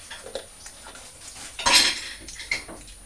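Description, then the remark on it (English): A jar lid drops with a sharp, bright metallic clatter that rings briefly, set among a few softer clinks and taps before and after, with no one talking. “Have I frightened Felix by like, dropping the lid of the jam door?”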